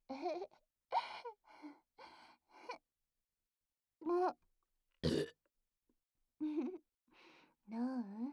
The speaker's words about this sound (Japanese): お祭り風味の私のゲップは。お祭りの匂いした？それとも普通に臭かった？